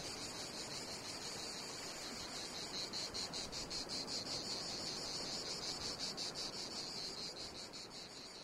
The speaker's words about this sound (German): Mit diesem schönen Grillenzirpen können wir uns sicher sein.